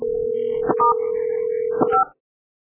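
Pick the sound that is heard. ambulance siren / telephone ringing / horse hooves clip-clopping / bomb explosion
telephone ringing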